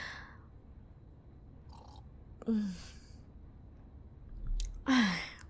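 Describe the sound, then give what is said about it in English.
Two distinct gulps of water from a bottle, each a quick wet swallow with a low throaty glug, separated by a short pause, with faint breathing and rustle in between and no talking. “I'll take a gulp first.”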